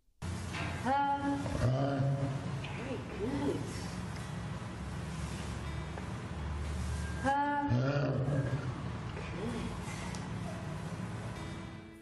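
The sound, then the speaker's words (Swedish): An orangutan imitating a human produces voice-like, wavering vocal calls in two main bursts, one early and one about six seconds later, over a constant rushing background noise. “Här är vi ljudet av en orangutang som imiterar en människa.”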